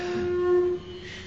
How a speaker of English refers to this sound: That was the elephant.